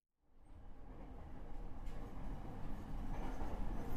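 train arriving at station

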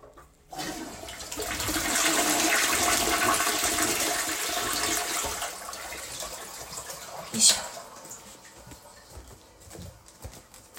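toilet being flushed

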